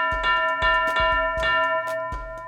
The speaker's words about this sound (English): So, you're going to ask me why you heard the boxing ring bell while I'm talking football?